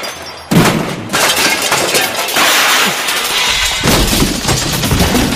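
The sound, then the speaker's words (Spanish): A thrown hammer smashes the Olympic cauldron: a sudden loud smash cuts in after a brief quiet moment, followed by several seconds of harsh, noisy crashing and clattering debris, with a second burst of rumbling toward the end. “Acaba de cargarse el pebetero de un martillazo.”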